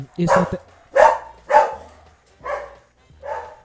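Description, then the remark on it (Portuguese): A dog inside a house barks five times in a steady, evenly spaced series, each bark a sharp mid-pitched burst, the last two a little softer than the first three. “O cachorro tava dentro de casa dessa vez.”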